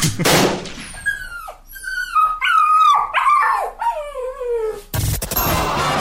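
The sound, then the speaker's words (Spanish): A dog vocalizes, a run of short yelping barks sliding into wavering, whining howls that rise and fall in pitch, with no talking, framed by bursts of noise at the start and end. “Y de pronto deja de ladrar.”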